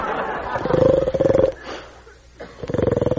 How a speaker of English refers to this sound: Who's that snoring? That's Sleeping Beauty.